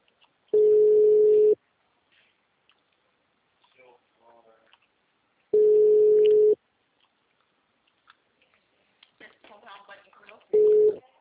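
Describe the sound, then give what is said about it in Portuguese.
A telephone busy signal: a loud, steady, low-pitched electronic tone sounding in one-second bursts, three times several seconds apart, with faint rustling and murmured sounds in the gaps. “Assim que o telefone estiver disponível, eu entrego seu recado.”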